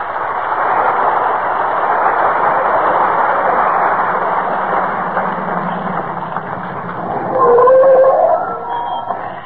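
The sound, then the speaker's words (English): A steady car engine rumbles for several seconds as Fibber McGee and Molly drive up in front of 79 Wistful Vista, then brakes let out a loud, rising squeal near the end as the car pulls to a stop. No one speaks. “But just as we open their show tonight, who should be driving up in front of 79 Wistful Vista, home from their vacation, but Fibber, McGee, and Molly?”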